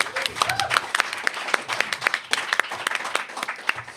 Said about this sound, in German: Ein Applaus